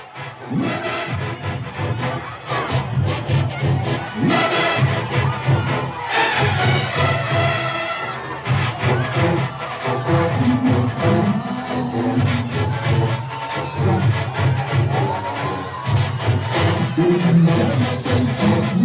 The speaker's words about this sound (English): If you are behaving like I am behaving and you hear that goatskin drum beating, you gotta get up on the chair. It's time to dance.